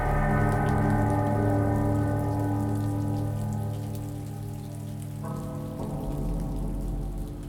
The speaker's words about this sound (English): It was kind of a post-harvest, like towards the end of harvest, it had started raining, recorded the sound of the rain in the vineyard.